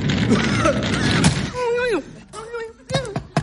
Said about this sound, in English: Oh, God, it's really smoky in here. I think I'll open the front door.